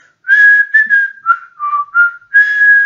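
A man whistles the folk tune "Blow the Wind Southerly" alone, a clear melody of several sustained notes that rise and dip in pitch, with brief pauses between phrases.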